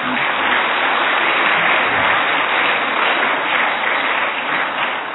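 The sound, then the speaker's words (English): Sustained applause from a church audience fills the whole stretch, a dense, steady wash of many hands clapping with no pauses or talking. “Que esos aplausos. This applause.”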